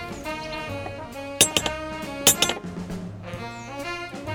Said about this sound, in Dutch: Oh, wauw. Hier is niet alleen een bel, maar ook een klopper. Ik ga eerst even met de klopper.